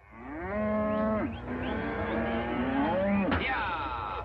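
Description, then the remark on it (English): A cow moos in long, drawn-out lowing calls that rise and fall in pitch, loud, filling the whole few seconds with a brief break and a sharp upward swoop near the end. “But we begin today with something furry.”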